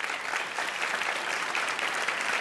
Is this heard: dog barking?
no